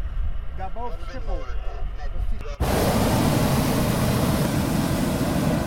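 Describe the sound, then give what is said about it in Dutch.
A hot air balloon's gas burner, which drives hot air into the balloon during a flight near Vinkeveen in the Netherlands, suddenly ignites into a loud, steady roar that drowns everything out, right after a man's voice speaking over quiet background. “Dat geluid is natuurlijk de brander waardoor de hete lucht de ballon in komt.”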